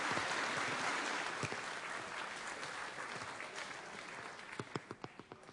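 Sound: applause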